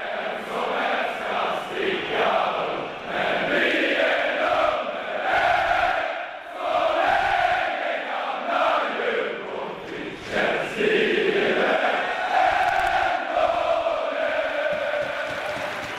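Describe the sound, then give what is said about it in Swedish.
A large crowd sings a song together, many voices blending into a loud, steady chorus with rising and falling melodic lines that continue without a break for the whole stretch. “Vi går vidare, och nästa låt kommer få, av naturliga skäl kan man ändå säga, framföras av publiken.”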